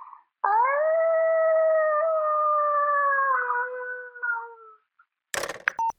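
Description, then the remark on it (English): A child's voice imitates a wolf howl as an animal impression submitted to Earth Rangers: one long, steady, high-pitched note held for about four seconds, sliding slightly lower before it trails off, followed by a brief click. “Here's my wolf impression.”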